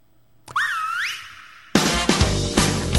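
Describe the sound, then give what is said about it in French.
A clear wolf whistle at girls in a 1987 song sweeps up and then glides down, followed a moment later by loud music kicking in abruptly. “Et en plus, il siffle les filles.”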